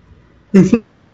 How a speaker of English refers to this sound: I get my yawn out of there.